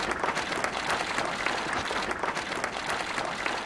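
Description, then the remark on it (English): Hundreds of people at a funeral applaud as the car carrying the deceased's remains arrives, a dense, sustained patter of many hands clapping at once, fairly loud and continuous throughout, with no voices standing out. “those people applauded as the car carrying Harold Jellicoe Percival's remains arrived”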